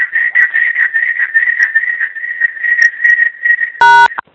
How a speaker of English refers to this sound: Someone is giving us a bird sound. Yeah, whose bird that is that? That was very pretty. That was very pretty.